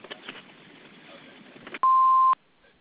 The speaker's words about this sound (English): All other inquiries, you can leave a message at the beep. Thank you.